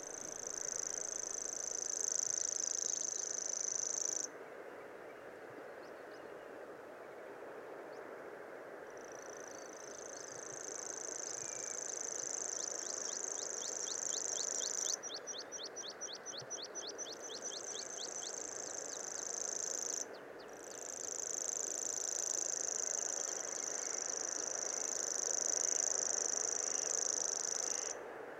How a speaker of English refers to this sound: Sean has provided us with a lovely audio of grasshopper warbler, or gropper for short, as birders say